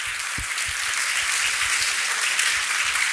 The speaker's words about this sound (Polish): Wielkie brawa, bo to nasze dzisiejsze gwiazdy.